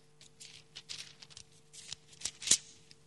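Thin Bible pages being flipped in quick succession, turning back to the Epistle to the Ephesians, a run of soft rustles and crisp flicks, ending with a sharper riffle near the end; no talking.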